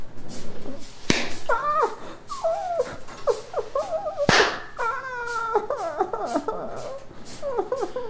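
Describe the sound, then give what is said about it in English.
High-pitched, wavering whining, like a dog whimpering, comes in repeated short bursts, broken by two sharp cracks. No one speaks. “Stop whining.”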